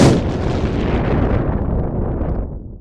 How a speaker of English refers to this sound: The pine catches with a whoosh. … screams as the shock of ignition hits us. We stumble back into the stream, and 3 more trees explode into flame.